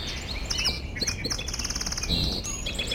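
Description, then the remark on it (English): A marsh dawn chorus at 5:30 a.m. in the Klokdoksen Marsh on unceded Wasanich territory, with song sparrows, common yellowthroats, American robins and red-winged blackbirds: many overlapping high chirps, trills and whistled phrases, including a rapid buzzy trill, all sounding together without pause. “and you can hear the marsh is alive with splashing of Virginia rails and the dawn chorus of the song sparrows, common yellow throats, American robins, and red-winged blackbirds.”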